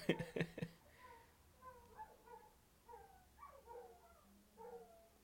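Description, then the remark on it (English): A few quick, sharp dog barks open the moment, followed by several seconds of high, wavering whines and whimpers from more than one dog, with no one talking. “But hey, go there and tell them dogs to hush.”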